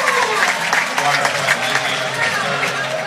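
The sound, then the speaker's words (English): Fort Recovery fans at a basketball game clap loudly and steadily for about three seconds in an obviously sarcastic cheer as a foul is finally called. A dense wash of applause with a few scattered voices cheering in the mix. “And they finally call a foul right there, and the Fort Recovery faithful clap really loud in a obviously sarcastic cheer.”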